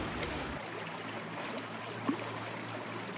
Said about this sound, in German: Hören Sie das Plätschern im Hintergrund? Dieses ruhige und gleichmäßige Geräusch? Das kommt aus dem Schlosshof, denn ich stehe hier gerade mitten im Kies und blicke auf den sehr gut gefüllten Kaltbach herunter